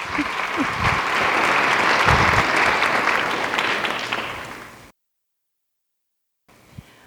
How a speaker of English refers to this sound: All right, will you give the Women of Dancing Needles a round of applause, please?